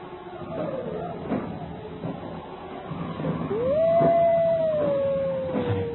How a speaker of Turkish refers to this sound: Duydun mu? Duydun mu? Kurtlar yine başladı.